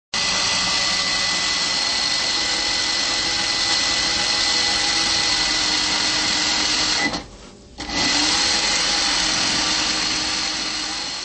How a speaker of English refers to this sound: Childhood memories with the sound of my mother's sewing machine as she worked through the night.